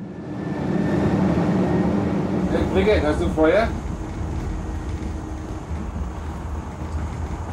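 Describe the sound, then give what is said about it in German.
A steady, low rumbling drone of a tram or S-Bahn commuter train in motion runs throughout, as two men board; a voice briefly calls out over it partway through. “Zwei Typen betreten das Tram oder die S-Bahn in der spürbaren Absicht, sich demnächst mit jemandem anzulegen.”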